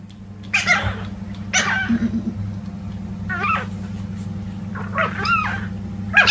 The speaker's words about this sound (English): The next is a couple of fighting, puppies. Yeah, fighting puppies. Siblings. Fighting chihuahuas.